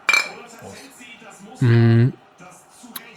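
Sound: clinking drinks together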